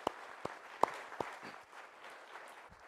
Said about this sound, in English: And so just to start out, more than anything else, I just think we need to thank them. So if you'll just give them a round of applause, I think that's only appropriate.